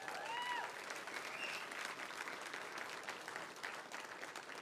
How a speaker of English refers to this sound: That's appropriate, and I know most of that applause